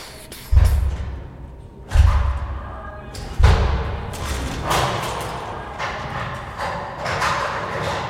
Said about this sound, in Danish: Og så kan vi jo så høre de her høje bankelyde ude foran.